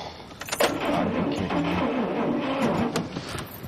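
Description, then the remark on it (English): A car engine cranks continuously for several seconds, a strained, whirring starter churning loudly without ever catching, with a couple of sharp clicks at the start and near the end. “Your car sounds broken, George.”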